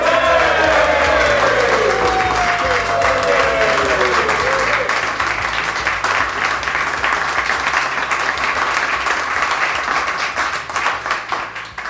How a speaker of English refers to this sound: I know it's not a competition, but one person did get a better cheer than the other. So you two, up your game.